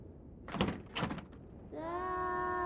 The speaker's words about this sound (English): He made it to the bedroom and shut the door behind him, only to hear it get caught on something.